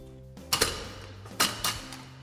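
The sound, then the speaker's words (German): A school gate being opened or shut, heard as a few sharp metallic clanks and rattles: a quick double knock, then two more jolts a moment later, with no voices. “So klingt unser Schultor.”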